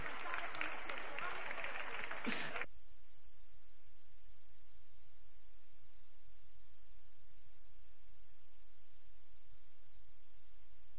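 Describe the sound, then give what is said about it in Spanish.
A burst of audience applause, loud and dense, lasting a couple of seconds before cutting off abruptly, leaving only a faint low hiss of background noise. “El aplauso para esta gente linda.”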